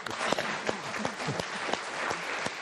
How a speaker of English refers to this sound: I think we should applaud our panel.